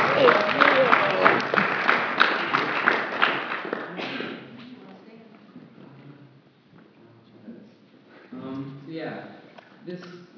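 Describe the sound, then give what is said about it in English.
A crowd breaks into a big round of loud, dense applause for people coming up to share about a conference; it lasts about four seconds, then thins and fades away before someone begins speaking. “Let's have a big round of applause as they're coming up.”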